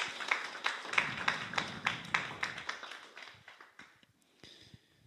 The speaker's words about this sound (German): Vielen Dank. Einen kleinen Applaus oder einen großen.